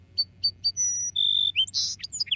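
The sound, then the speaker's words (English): A song sparrow sings: three crisp introductory notes, then a buzzy trill and a quick jumble of bright chirps and whistles, clear over a low background hum. “If you visit one field with a few song sparrows, they often sound more like each other than a group of song sparrows living a few miles away.”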